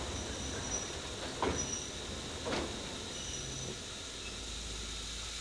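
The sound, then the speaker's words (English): A steady rail car rumble with a couple of brief clunking bursts as the brakes are slowly applied and the train slows on arriving at a platform, continuous, with no one speaking. “Slowly apply the brakes and feel how the car is acting.”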